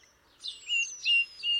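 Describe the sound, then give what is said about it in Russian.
Two songbirds sing in three quick, bright, high-pitched chirping phrases, clear, with no voices and only quiet background between the notes. “А вдруг над ними звонко запели две птицы.”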